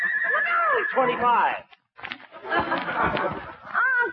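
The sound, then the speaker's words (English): A horse said to have some thoroughbred in it neighs loudly, a shrill whinny that wavers and falls in pitch, followed by rough snorting and shuffling, then a shorter whinny at the end. “he's a remarkable horse, my boy. Must have some thoroughbred in him to have all that spirit.”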